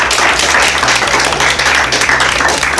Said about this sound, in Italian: ma soprattutto l'applauso più grosso alla vostra voglia di mettervi in gioco, di superare magari una piccola timidezza che è quella di parlare in un microfono, di usare la voce bene, la fantasia bella, viva, applauso a voi.